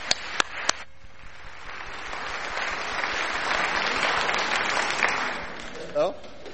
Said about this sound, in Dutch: Oh, applaus, ja, heel goed.